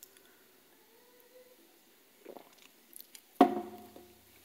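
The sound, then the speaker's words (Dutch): Someone takes a quiet sip of a drink, with soft mouth and swallowing noises followed by a sharper, louder clunk near the end, with no talking. “Sorry, ik ga even een slokje nemen.”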